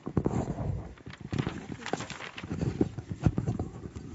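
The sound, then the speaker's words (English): Camel hooves clip-clop at a walking pace, a steady run of sharp knocks on hard ground that continues for several seconds. “We came in on some serious camel power.”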